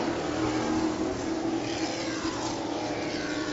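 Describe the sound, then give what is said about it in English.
Race car engines drone steadily on a Bandolero race track as car No. 14, Alex Johnson's car, blows up with smoke coming from its exhaust pipe; a continuous buzzing roar that holds an even loudness throughout with no pauses and no voices. “14 blowing up on the Bandolero track.”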